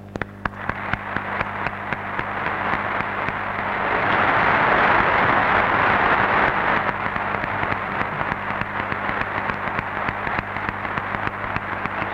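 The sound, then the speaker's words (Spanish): Sustained applause from deputies and senators gathered at the Palacio de las Cortes, greeting the words of Cortes president Antonio Hernández Gil: a dense crackling wash of many hands clapping that swells to its loudest midway and then holds steady, with no voices heard. “palabras del presidente de las Cortes, don Antonio Hernández Gil, quien recibe el aplauso de los diputados y senadores reunidos hoy aquí en este acto, emotivo acto del Palacio de las Cortes.”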